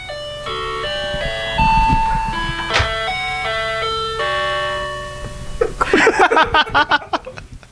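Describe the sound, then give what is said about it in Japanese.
An electronic entrance door chime at a new office plays a bright, multi-note melody, the FamilyMart convenience-store entry jingle, clear and steady, followed by bursts of laughter as the tune ends. “新しい事務所に、あの、玄関のチャイムがついてまして、このチャイムが面白いから”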